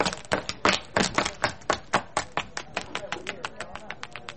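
Quick, evenly paced footsteps, sharp clicking steps about four or five per second, that grow steadily quieter until they are faint, with no voices over them.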